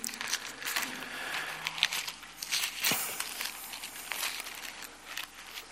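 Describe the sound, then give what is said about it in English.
Thin paper Bible pages being flipped while turning to 1 Corinthians 12, in a quick, continuous series of soft rustles and crinkles, with a sharper flick near the middle and no talking. “See, still use paper. Quite useful. Especially when your phone dies.”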